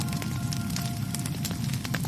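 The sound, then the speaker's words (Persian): A fire crackles steadily, with sharp pops and snaps scattered over a constant low roar. It is a fire for melting down gold ornaments and jewelry taken from the Pharaoh's people, fairly loud, with no voices. “گفتند ما از روی اختیار از وعده تو تخلف نکردیم، اما با وسوسه های سامری دیدیم بهتر است این زیورالات و تلاجاتی را که از فرعونیان همراه داریم در آتشی ذوب کنیم.”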